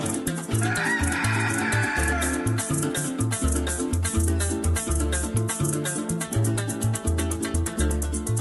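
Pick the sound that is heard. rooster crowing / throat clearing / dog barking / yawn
rooster crowing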